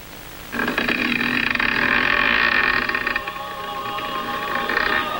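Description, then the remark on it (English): A key is inserted in the lock and a heavy trap door creaks open, one long, loud, groaning creak that drags on for several seconds before easing off, with a faint mechanical rattle and no voices. “Returning to the trap door, Nan inserts the key in the lock.”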